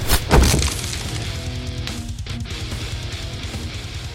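A wooden door smashed into small pieces with a head: a loud splintering crash of breaking wood bursts out at the start, followed by cracking debris and a low rumbling tone that lingers for several seconds.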